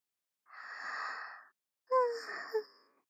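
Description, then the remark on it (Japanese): A sleepy baby's big yawn: a long, airy intake of breath, a short pause, then a drawn-out voiced exhale that wavers and ends with a small squeak, with no talking. “大きなあくび。”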